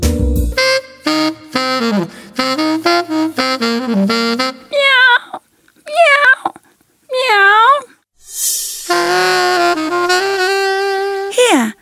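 A hungry cat meows repeatedly, a run of short rising-and-falling mews ending in one long, drawn-out cry, with a voice-like vocalization just before.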